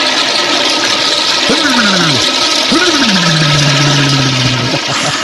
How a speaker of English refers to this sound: Nothing like sticking your head in the toilet and pulling the lever early in the morning as a way to refreshen one's mind.